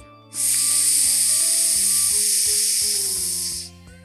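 At a children's party, air hisses steadily out of balloons in one long, loud, even stream lasting about three seconds, over soft background music that continues after it stops.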